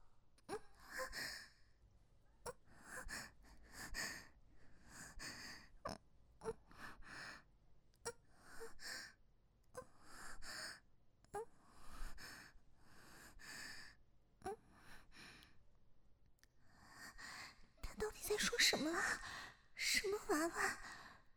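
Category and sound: human body sound, panting breaths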